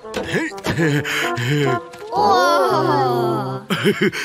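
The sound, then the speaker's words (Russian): A voice imitates a car's wheels spinning while the car is stuck in spring: wavering revving whines rise and fall, then one long strained drone, ending in a few quick bursts. It is fairly loud. “Машина забуксовала.”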